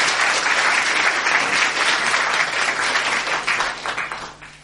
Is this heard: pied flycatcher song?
no